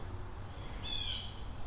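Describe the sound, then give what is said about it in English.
A single odd, high-pitched bird call rings out briefly from birds in the trees by a creek near a golf course, over a steady low outdoor rumble, with no one talking. “I hear more odd birds. I'm just looking up into the trees.”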